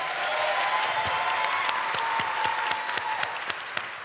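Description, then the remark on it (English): An audience applauding steadily, a dense wash of clapping with sharper individual claps popping through, sustained for several seconds at a fairly loud level. “Round of applause so for Ghost Lady, man.”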